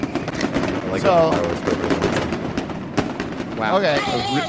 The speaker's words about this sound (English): if you want to get those fireworks ready